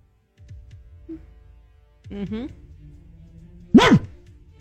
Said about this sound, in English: You do like the barking, don't you?